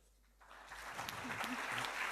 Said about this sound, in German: Applaus.